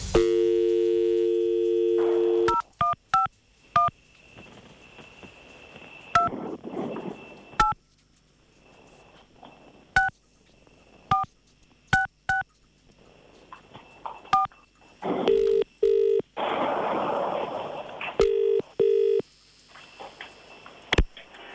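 A dial tone gives way to a quick string of keypad beeps as a number is dialed to phone a caller's ex-husband live on a Radio City breakfast show, followed by a few bursts of a telephone ringing tone. No one speaks.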